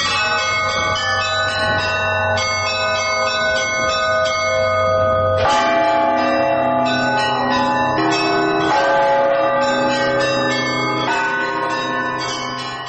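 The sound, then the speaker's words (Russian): Large church bells ring together in a dense, layered peal, with a deep bell, the large blagovest bell, struck steadily beneath higher bells chiming in irregular clusters, loud and sustained with long ringing overtones. “Второй раз стукнул большой колокол благовест.”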